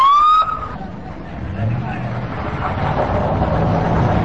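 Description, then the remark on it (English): An ambulance siren wails briefly at the start, rising in pitch, then gives way to loud street commotion with a crowd of overlapping voices and traffic noise, at the Al-Shorja marketplace in Baghdad after car bomb blasts, as ambulance and rescue workers rush to free the wounded from debris. “Thick black smoke billowed from the Al-Shorja marketplace in Baghdad after midday as ambulance and rescue workers rushed to free the wounded from underneath debris.”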